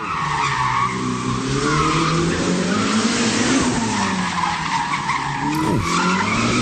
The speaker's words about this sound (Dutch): Maar het is niet met zijn Ferrari-auto, of met zijn Formule 1-auto. Nee, niet de Formule 1-auto. Nee. Dit was de Ferrari SF90 Stradale met een V8 hybride motor.